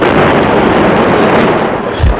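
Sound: artillery shell explosion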